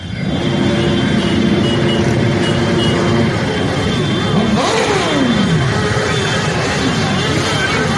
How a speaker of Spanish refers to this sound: Bueno, ya saben, son las motos y es la andaina motera, esa movilización, esa marcha motera que organizaron este domingo, pese a que caía un poquito de lluvia, pero aún así no hubo problema.